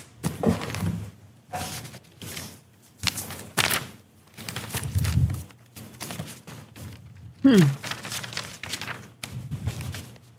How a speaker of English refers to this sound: A lot of shuffling of papers.